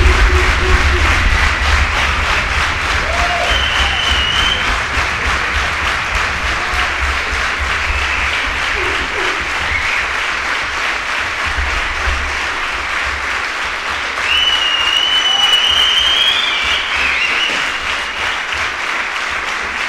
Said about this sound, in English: Please give him a warm welcome with a hand of applause.